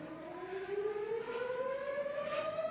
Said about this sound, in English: Come on up, and we'll go ahead and take your time, because we're going to wait for the siren to wind back down again.